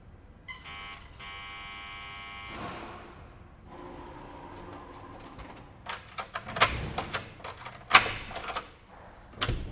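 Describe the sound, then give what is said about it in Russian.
A harsh electric doorbell at a neighbouring apartment buzzes in two bursts, the second held for a couple of seconds, followed after a pause by the clunks and clicks of a lock turning and a door opening. “Я хотел было уйти, но потом, раз уж забрался так далеко, позвонил в дверь рядом.”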